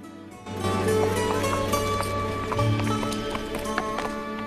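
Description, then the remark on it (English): Horse hooves clip-clop at a steady trotting rhythm, fairly clear, over a low sustained musical drone, as a girl rides the horse out of a farm. “Nolan watches his daughter ride out of the farm”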